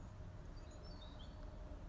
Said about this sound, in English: And there's something nice about hearing the birds singing, like in the rain and after the rain.